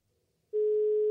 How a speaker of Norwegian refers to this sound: og så skal vi ringe opp en fyr, og så skal vi høre om han enig med oss.